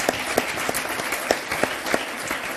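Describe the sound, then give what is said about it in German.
The audience of a first live show claps steadily, a dense wash of many hands with a few sharper individual claps popping out in a loose rhythm, sustained throughout. “Können wir den Applaus nochmal haben?”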